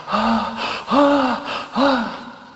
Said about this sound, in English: As that prospect novice was panting for air.